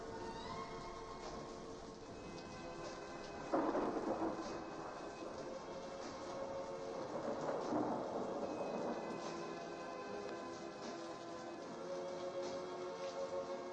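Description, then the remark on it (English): Steady rain hisses throughout while low thunder rumbles roll in, one sharp crack near four seconds and another swelling rumble around eight, full, with no voices. “Well, wherever you are, whoever you are, the first time you heard this, you still hold in your heart that memory of that stormy night.”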